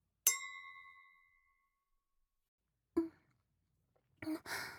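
Glasses of soft drink touch in a toast in a single bright clink, leaving a clear ringing tone that fades over about a second. A soft breathy sound and brief rustling follow after a pause.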